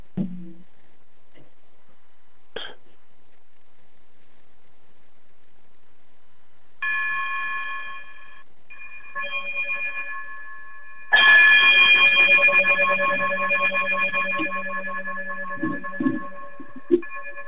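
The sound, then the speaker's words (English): A bright electronic chime, played as an outro to close a show, rings out in sustained, layered tones, first in two short bursts and then a louder, fuller swell that slowly fades, with no voices. “Brother Bragg, if you would be so kind and chime us out, we'll talk to you all later.”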